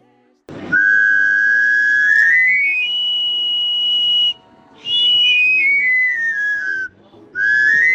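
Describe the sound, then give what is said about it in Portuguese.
A knife grinder at Bolhão plays his panpipe whistle in loud sliding runs, rising then stepping back down, repeated in bursts, over a steady mechanical whine from his working grinding machine. “Ouviram o assobio e a máquina a trabalhar. É o amolador que aí vem.”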